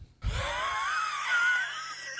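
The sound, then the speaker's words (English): A single long, strained wheezing breath from lungs affected by a pulmonary embolism, with a high, whistling squeak that wavers in pitch, starting with a low breathy rush and holding steady for about two seconds. “This is what my pulmonary embolism lungs sound like right now.”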